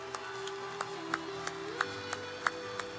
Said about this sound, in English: Come on down. Come on down. Let's give him a hand. Come on. Let's give him a hand. All the way around. Come on down. Let's give him a hand. Let's give him a hand.